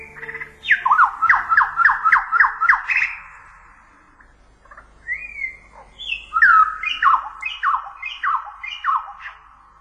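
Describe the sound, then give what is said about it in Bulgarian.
Exotic bird calls: a fast run of about seven loud, squawking downward-sliding notes, a short pause, then another similar rhythmic burst, with no talking. “Никога не съм виждала по-странни птици.”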